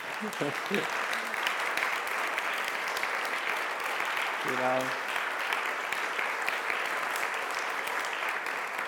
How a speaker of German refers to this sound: und ich glaube, wir geben ihr einen Applaus und sie ist sogar hier.